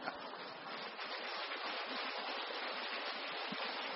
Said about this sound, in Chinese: 谢谢你们鼓励的掌声。在你们的掌声鼓励下，我再讲一个。